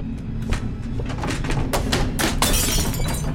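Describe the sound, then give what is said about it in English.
A picture frame is knocked from a wall by someone's shoulder and drops, its glass shattering: a sharp crash followed by a flurry of tinkling shards scattering and skittering over a low rumbling background for a few seconds. “Clutching the dado rail, she pulls herself along, her shoulder knocking a picture frame from the wall.”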